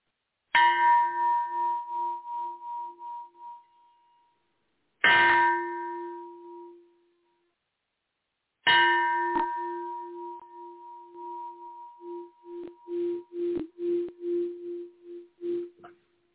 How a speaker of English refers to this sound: It's my favorite bell, just saying.